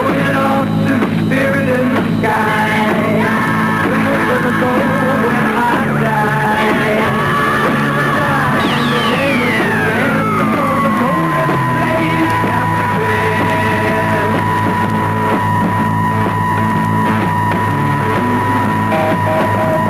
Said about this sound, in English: After the arrival of RNI, the British government tried to stop the transmissions by jamming them.